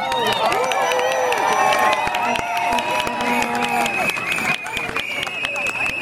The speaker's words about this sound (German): Und ich finde, dafür gibt es mal einen fetten Applaus.